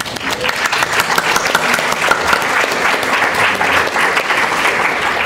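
Sustained applause from a sizable audience thanking the participants at the Health in Difference 2013 conference in Melbourne, April 2013, a dense, steady wash of many hands clapping at once, loud and continuous throughout with no speech over it.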